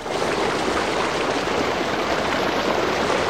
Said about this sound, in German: Er zeigt 40 Millionen Jahre alte Rohbraunkohle, warnt vor gefährlichen Abbrüchen, deutet auf ein Rohr, aus dem Wasser in die Grube schießt.